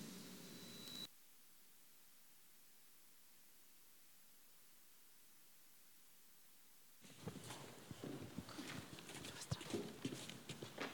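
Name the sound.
horse hooves clip-clopping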